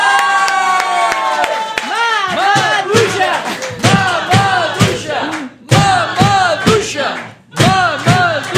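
A crowd bursts into loud applause, sharp claps mixed with rising whoops and shouted cheers that swell and dip in waves for several seconds.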